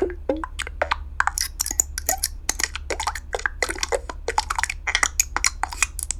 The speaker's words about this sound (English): So typically what I do is I create a bunch of button sounds. These are would-be buttons for a Yahoo widget. And say, okay, you guys tell me which ones are the closest, and then you end up with, 38 sounds here.